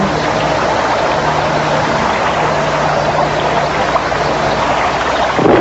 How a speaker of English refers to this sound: Just the sound of water is magic. It's really beautiful. Sit here and relax.